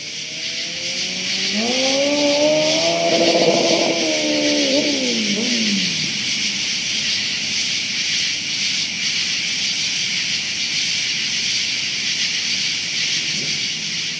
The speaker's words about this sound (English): Tree frogs on the Constitution Trail recorded Friday, August 7th at about 9 p.m.